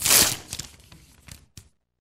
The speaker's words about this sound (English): This morning, I glued these two pieces of paper together. Now, what happens if I try to take them apart?